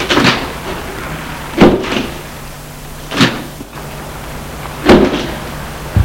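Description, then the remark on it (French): Car doors open and shut in a series of solid thunks spaced a second or two apart, over a low steady engine-like hum, as people get out of a car outside a building in the faubourg Saint-Jacques. “Ils sortent de voiture.”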